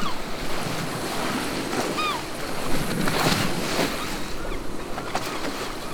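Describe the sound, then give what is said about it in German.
Steady ocean surf washes and rumbles throughout, heard from a ship with its engine switched off, with a few thin, high gull cries calling briefly around the middle as the seagulls fly past overhead. “Man hört so viele Möwen, die vorbeifliegen und den Ozean.”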